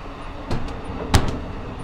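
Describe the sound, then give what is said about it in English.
A train car door is kicked open with a foot on a moving train in Maryland: two sharp, heavy thuds about half a second apart, the second louder, over a steady low rumble of the moving train. “has kicked the door. I had to kick it twice.”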